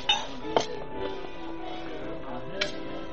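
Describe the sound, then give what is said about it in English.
A bottle of rye and a glass are set down on a bar: a few sharp glassy clinks and knocks, two close together at the start and one more a couple of seconds later, over a low background murmur. “Set out a bottle of rye and another glass, huh?”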